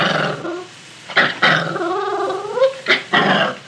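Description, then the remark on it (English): A puppy growls in short, fierce bursts as a man tries to put a new collar and leash on her, with a longer wavering growl in the middle rising into whiny yips, loud and alone without any talking. “But when he tried to put the new collar and leash on her...”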